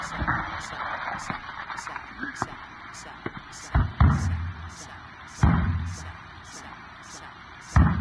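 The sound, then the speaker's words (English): A few heavy thumps land at irregular intervals as someone bangs by hand on a broken radio, over a steady crackling hiss with faint rhythmic ticking and muffled voices in the background. “Bang it again.”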